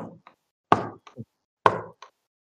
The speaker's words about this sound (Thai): มาอยู่หน้าบ้านก็จะมีประตูตรงนึงเสียงเคาะประตู3รอบประมาณเนี้ย